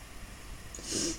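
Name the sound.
throat clearing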